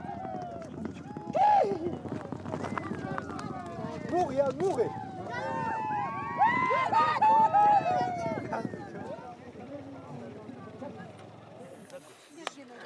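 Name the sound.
horses galloping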